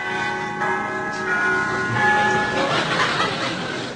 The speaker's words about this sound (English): Well, now, I'm standing outside quite the most palatial penthouse I've ever seen. It really is most opulent. I'm just going to ring the bell.